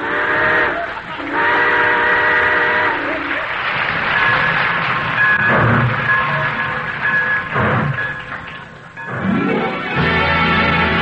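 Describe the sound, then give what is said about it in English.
A steam train pulls out of a station, its whistle sounding in long harmonic blasts over the steady rumble and clatter of the cars, with a brief break before the whistle returns near the end. “All aboard! Well, looks as though we're ready to pull out.”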